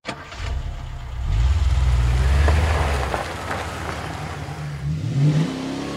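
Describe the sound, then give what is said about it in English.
The V6 engine of a brand new blue Mustang revs loudly, its pitch climbing and dropping through a couple of throttle swells before settling into a steady rumble, with no voices. “She loved that car, loved downshifting its V6 engine on the winding high desert roads near their home in Palmdale, 70 miles north of L.A.”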